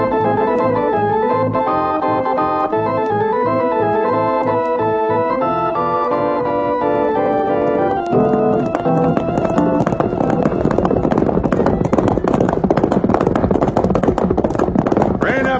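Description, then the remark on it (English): Horses' hooves clip-clop loudly as several riders break into a fast, steady gallop over a swelling orchestral score, the hoofbeats taking over halfway through. “Well, if we ride, you'll ride with us”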